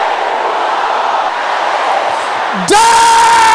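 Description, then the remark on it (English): A large audience loudly shouts a prayer in unison, a dense roar of many voices, then abruptly gives way to a bright sustained tone near the end. “Every power that hates my happiness, can I hear you shouting that?”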